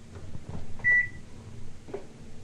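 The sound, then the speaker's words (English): A washing machine being turned on gives a single short, high-pitched electronic beep as its start-up sound, clear above a low, steady background hum, with a few faint knocks and shuffles around it and no one speaking. “That's my washing machine, it sings.”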